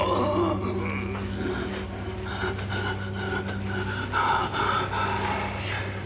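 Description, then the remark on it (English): Heavy, labored gasping breaths of a completely dehydrated man repeat in a strained rhythm, fairly loud, over a steady low droning hum with no speech. “His breathing is becoming more difficult.”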